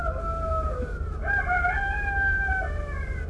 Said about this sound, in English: And they're crowing out there, aren't they? Yeah, them rooster. Them rooster.